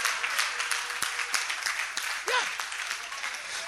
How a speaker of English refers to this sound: Because she had desired to start a bar center. Oh, clap your hands for her.